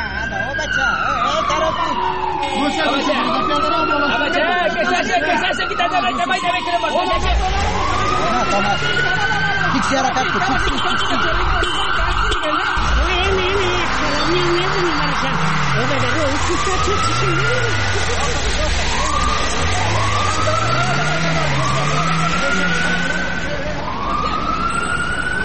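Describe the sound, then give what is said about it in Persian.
Several wailing sirens overlap as a convoy of cars with tinted windows and no license plates passes by on a road, heading toward an intersection. Their rising and falling tones sweep continuously over loud traffic rumble, with faint voices in the background. “اونه چند تا موتر شیشستی های بینم بر پلت از جاده رفت طرف ما میان و میخوان که طرف چارایی تیر شوند.”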